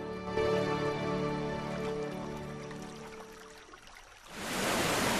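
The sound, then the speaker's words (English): A sustained, tonal musical drone fades out, then a loud, steady rush of splashing water bursts in as a waterfall tumbles over rocks in a river lined by trees, filling the final second. “A tumbling waterfall splashing over rocks in a river lined by trees.”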